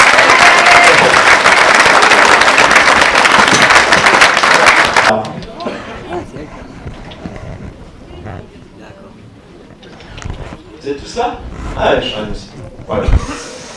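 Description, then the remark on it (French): An audience breaks into loud, dense applause for about five seconds for municipal staff invited onto the stage, then it cuts off abruptly and a speaker's voice carries on more quietly. “Allez, vous pouvez les applaudir parce qu'ils le méritent.”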